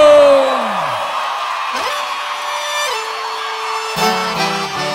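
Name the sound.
crowd shouting and whooping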